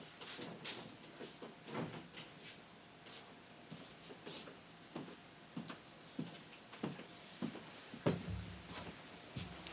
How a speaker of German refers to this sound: Diejenigen, die jetzt das nicht mitbekommen haben über die Kamera, ich habe gerade von den beiden Türen, wo man reinkommt, eine Tür aufgemacht und habe die dann unten mit einem Stopper festgemacht.